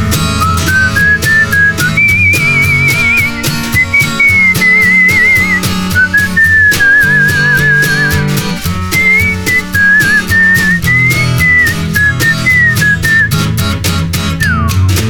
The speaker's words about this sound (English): Whistle solo.